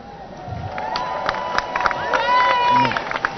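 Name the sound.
crowd applause and cheering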